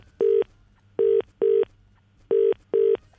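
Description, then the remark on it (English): Five short electronic beeps of a phone number being dialed for a prank call, steady tones in an uneven rhythm, two pairs and a single, with a faint low hum underneath and no talking. “Gets a phone call from that guy, the official guy, the official sounding guy from the beach, the crank.”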